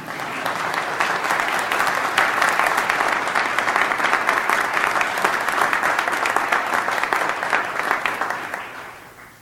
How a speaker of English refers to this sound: By the way, you might applaud if you'd like to.